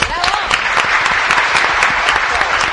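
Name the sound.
applause welcoming a guest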